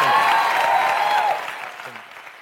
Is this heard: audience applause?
yes